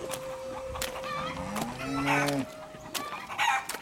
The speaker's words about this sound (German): Ich muss nur noch die Hühner in den Stall treiben.